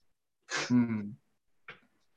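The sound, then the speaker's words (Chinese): A single sneeze bursts out with a sharp hiss and a short voiced tail, followed after a pause by a quick faint sniff or breath. “喷喷嚏，我喷喷嚏。”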